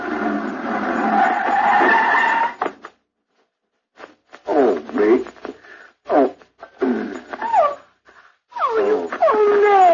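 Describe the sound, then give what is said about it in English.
A racing sports car comes around a corner, its tires screeching loudly for nearly three seconds in a harsh sustained squeal. After a pause come several bursts of wavering, whimpering vocal sounds. “As he was walking along the boulevard and bent over to pick up his cigar, all of a sudden around the corner came one of those racing sports cars.”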